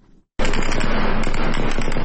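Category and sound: impact, repeated gunfire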